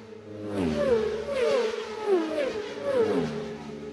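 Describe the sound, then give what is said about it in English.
Several racing motorcycles in a race, crossing very close together, whine past in quick succession, their high buzzing engines sweeping up and down in pitch with each pass, loud and steady throughout with no voices. “Like angry wasps they sound as they go past us here.”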